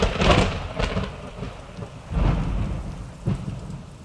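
Steady rain falls and patters on a surface, with low rumbles of thunder rolling in and out beneath it; a stormy, continuous wash with no voices.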